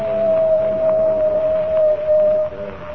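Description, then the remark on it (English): A coyote howls once, a long, steady wailing note held for a couple of seconds before cutting off, loud and clear over a low murmuring background with no talking. “The coyote has howled three times.”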